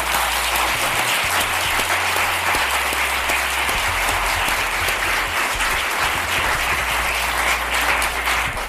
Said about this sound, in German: Und ja, vielleicht haben die beiden, nicht ich, die beiden sich einen Applaus verdient.